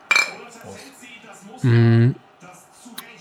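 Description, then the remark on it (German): A bright, sharp clink of glasses touching in a toast with cola rings out once at the start, at a wooden table, followed by people talking and a loud, drawn-out voiced exclamation. “Darauf eine Cola. Ja, das ist ja Wahnsinn. Prost”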